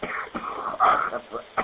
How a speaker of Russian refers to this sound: Кашель, да. Ну я понял. Курить надо бросать